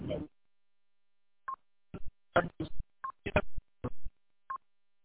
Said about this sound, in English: I don't know if I'm breaking up a little bit. My phone just made some funky beeps.